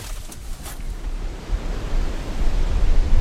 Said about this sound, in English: Hear the waves. And this is several days after the storm has left, but during the course of this last storm, the sea was just pounding.